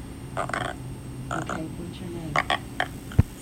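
A dog waking its owner up lets out a series of short, croaky whines that sound almost like a frog or a creaking door, coming in uneven bursts over a low background hum.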